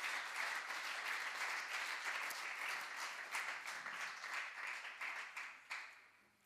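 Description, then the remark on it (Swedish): An audience applauds steadily, a dense wash of many hands clapping at once that stays loud for several seconds before thinning into scattered claps at the end. No one speaks. “Om du ska klappa så tycker jag du kan klappa på riktigt alltså.”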